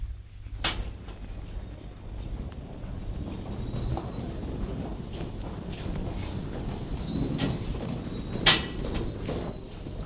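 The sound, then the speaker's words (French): A few sharp metallic clunks of metro entrance gates, small one-way gates that stop people reaching the platform in the wrong direction, swinging shut at irregular intervals, one louder near the end, over a steady low rumble of station and train noise. “Les petits portillons qui vous empêchent d'accéder au quai dans le sens interdit.”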